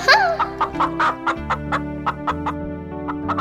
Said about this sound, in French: une poule sur un mur qui mange un morceau de pain dur.